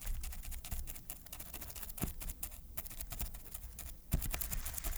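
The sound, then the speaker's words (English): Pencils drum without a sandbox, recreating a sound effect of a crab walking on the beach: a rapid, uneven patter of light clicking taps, with a few sharper knocks standing out over five steady seconds. “he once had to create the sound of a crab walking on the beach, which he did by drumming pencils in a sandbox.”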